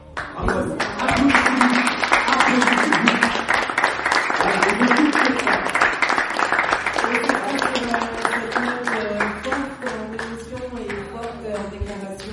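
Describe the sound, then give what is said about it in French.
An audience at the FIFAC applauds a guest for about twelve seconds, a dense, steady wash of many hands clapping at a loud, even level while voices carry on underneath. “Qu'on va encore une fois applaudir Edouard Montout.”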